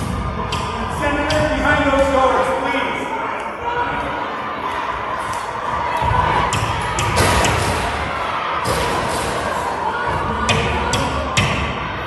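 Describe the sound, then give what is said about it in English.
A large crowd yells and chants while repeated heavy thuds of banging on doors ring out loudly, with scattered shouts throughout. “Wow, they're banging on the doors.”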